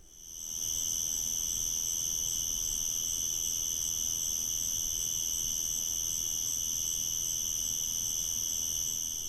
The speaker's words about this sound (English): Hello. I'm out on my front porch, listening to the crickets late at night.